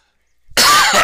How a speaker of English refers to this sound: Pardon me. We're both coughing a bit here. Well, I just inhaled some saliva.